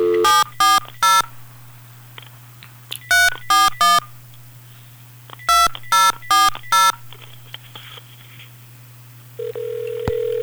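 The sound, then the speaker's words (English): Telephone keypad tones beep out in three quick bursts of three or four presses each over a steady low hum as a radio host dials the next caller on the air, ending with a ringback tone starting on the line. “Don't you love the sound of somebody calling somebody on the air?”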